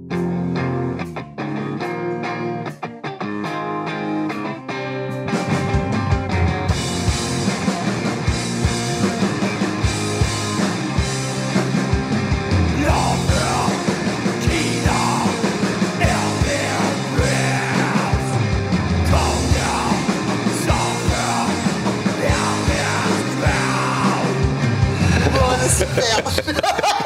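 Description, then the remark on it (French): A melancholic grunge rock song with saturated, distorted guitars and heavy drums kicks in after a sparse opening, a raw, shouted, youthful male vocal riding over the loud, dense band throughout. “Le grunge, avec des instants beaucoup plus rock, avec de la guitare saturée, tout ça, de la grosse batterie.”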